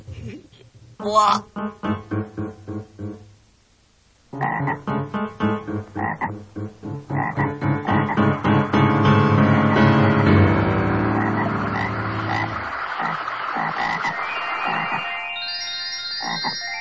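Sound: small frogs croaking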